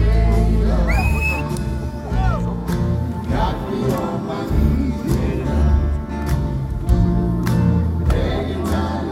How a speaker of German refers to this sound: Das Publikum klatscht mit